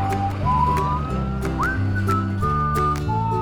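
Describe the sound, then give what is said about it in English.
A police car siren wails with rising and falling pitch, fairly loud, as the police car drives to New York, over a steady bed of background music for the whole few seconds. “So the Nutties go to New York by police car.”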